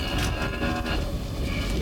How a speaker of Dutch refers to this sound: Dat brengt me op de loei, het geluid van de koe. Ik wil je uitnodigen voor een korte loeiles.